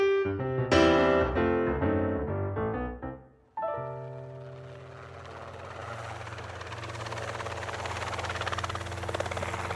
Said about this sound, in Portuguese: Um helicóptero acompanha de perto uma ação policial